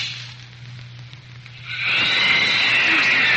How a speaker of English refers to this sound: Listen, there's two. There it is again. Oh, I think I know what that is. It's just a plain, ordinary alley cat.